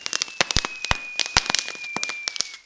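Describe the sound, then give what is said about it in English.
Fireworks crackle at a New Year's celebration in a rapid, irregular burst of sharp pops and snaps, moderately loud, with a thin steady whistle-like tone running underneath. “All of our friends and relatives come together to our house and gather to eat, socialize, and watch fireworks.”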